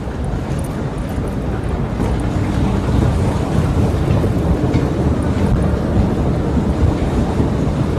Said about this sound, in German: Leute, ich bin jetzt beim U-Bahn-Gleis angekommen.